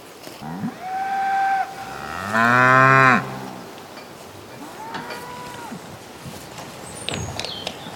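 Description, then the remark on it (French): Several cows moo one after another, long drawn-out calls with one especially loud bellow in the middle and fainter moos around it. “Ces animaux tendres et pacifiques souffrent d'un discrédit dont témoigne le langage. Peau de vache, grosse vache, vacherie.”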